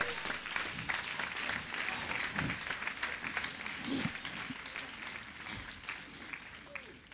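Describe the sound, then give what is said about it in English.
A church audience gives the Lord a clap offering, clapping steadily for several seconds in a dense, even wash of many hands. Scattered voices call out underneath, and the applause thins slightly toward the end. “Everybody give the Lord a clap offering.”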